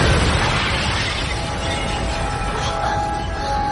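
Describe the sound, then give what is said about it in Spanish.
A loud airplane explosion: a dense, roaring blast of noise that rumbles and crackles steadily for several seconds without fading, overpowering, with no voices. “Efectivamente, ahora se ha producido una explosión del avión en la realidad y todos los estudiantes que se habían bajado del avión junto con la profesora se quedan consternados, totalmente abrumados.”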